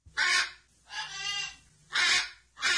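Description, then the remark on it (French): A person imitates a parrot with four harsh, raspy squawks in quick succession, loud, with short pauses between them and no other talking. “Mais bien sûr, et moi je vais faire les perroquets.”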